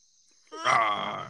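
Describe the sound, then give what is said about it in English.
A young boy imitates a lion's roar with one loud, drawn-out, growling vocal burst lasting under a second, rising quickly after a brief quiet moment and then slowly trailing off. “You's a lion. I want to hear your roar. Let me hear that roar.”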